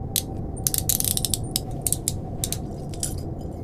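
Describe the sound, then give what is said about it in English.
A heavy mechanical rumble with a rapid, uneven string of ratcheting clicks on top as a spaceship's dock bridge doors grind open. It stays steady for several seconds, with no voices. “Dock, bridge, doors are opening.”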